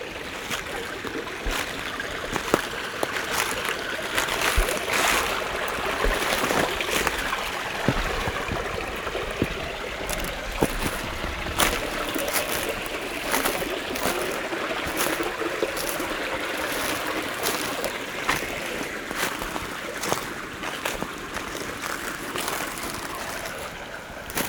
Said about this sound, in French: Voici, au milieu du Talvec, petit ravin creusé par le lit de ce petit ruisseau que je remonte.